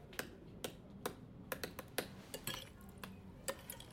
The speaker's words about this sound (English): Max softly nods his head as he types.